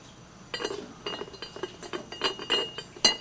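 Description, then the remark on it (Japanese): A series of light glassy clinks and knocks of a glass kettle being handled and set down, with several irregular taps and a sharper ring near the end. “やかんだね。”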